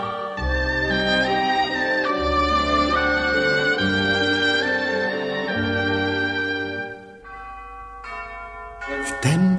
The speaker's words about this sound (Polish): Słońce stoczyło swą wielką kulę aż na krawędź świata i zaraz zaczęły dzwony bić.